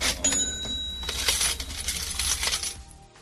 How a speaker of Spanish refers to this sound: Es el sonido de una caja registradora.